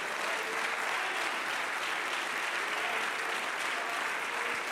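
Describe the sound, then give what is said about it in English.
An audience claps hands to the Lord in a steady, dense wash of applause that holds at an even level for the whole stretch, with no clear voices rising above it. “Let's just stop then, and let's clap our hands for a minute unto the Lord and bless his name.”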